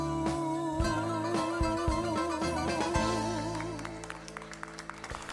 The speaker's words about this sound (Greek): Και τα χειροκροτήματα βέβαια δεν είναι δικά μας